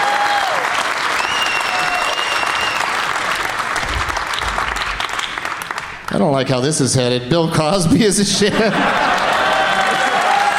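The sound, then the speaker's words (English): Loud, sustained applause from an audience of white people, a dense wash of clapping that gives way to a man speaking for a few seconds before the clapping surges back. “It's a room full of white people clapping at black shitheads.”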